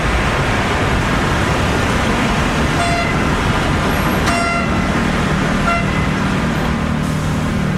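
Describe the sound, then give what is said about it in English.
Dense, steady roar of city street traffic with several short car horn toots cutting through at intervals, loud and constant with no pauses. “The afternoons during the high tea and rush hours, especially during the weekends, is when the most people are out and about, bringing the hum of the city to a chaotic fever pitch.”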